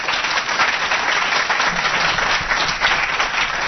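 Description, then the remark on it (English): An audience claps steadily for several seconds to show they learned something from Brian's talk, a dense, even wash of many hands with no voices standing out and no letup in loudness. “If you learned something from Brian this week, show of hands by applause.”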